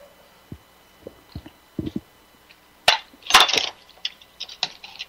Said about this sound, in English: I'm going to take a drink of water here and then we'll get started.